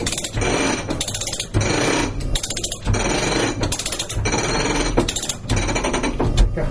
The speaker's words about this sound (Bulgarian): Спирачката е натекната и трамвай е паркиран. Това е условието.